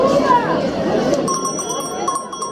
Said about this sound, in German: Auch bei uns selten gewordene Handwerkszünfte trifft man auf dem Markt in Esine. Den Glockenschmied zum Beispiel. Der bietet handgeschmiedete Glocken in verschiedenen Größen und für jeden Anlass an.